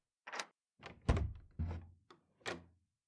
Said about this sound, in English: Yeah, hold on. Let me unlock my door.